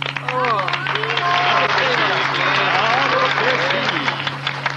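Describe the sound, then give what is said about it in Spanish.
A crowd claps steadily for several seconds for don Eustaquio de la Trompa and his niece, the dense applause mixed with scattered shouts and voices, all over a constant low electrical hum. “Esta vez pedimos el aplauso fuerte para don Eustaquio de la Trompa y su encantadora sobrina.”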